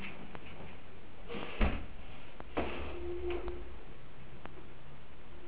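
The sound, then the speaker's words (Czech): The door of a doctor's consulting room is opened without a knock, creaking and clunking: a sharp thump, then a softer second knock of the latch about a second later, with no voices. “Bez klepání do ordinace se otvírají dveře.”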